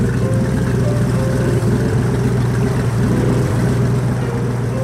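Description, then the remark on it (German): A motorboat engine runs steadily as the boat casts off, a loud, continuous low droning hum with a faint rhythmic throb, holding constant for the whole stretch with no voices. “Na dann, wir legen ab.”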